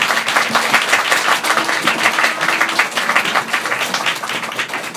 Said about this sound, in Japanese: はい、よろしくお願いします、はい、ということで拍手をお迎えください。